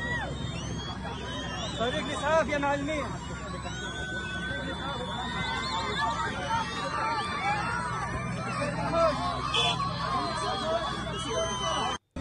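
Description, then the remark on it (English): A large crowd cheers and shouts continuously as a body dug up by Hamas militants is carried away, with high whistles rising above a dense roar of voices and scattered yells that stays loud and steady throughout. “Then crowds can be heard whistling and cheering as the body's carried away.”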